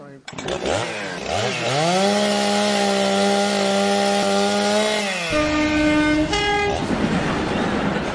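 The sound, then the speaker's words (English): In an improvised sound-effects game, voices imitate a chainsaw revving up and droning steadily. Near the end, an imitated train whistle or horn cuts in as the train runs over the chainsaw, and a hissing, rushing noise takes over. “Train runs over chainsaw, and harp causes flashback, so train is late.”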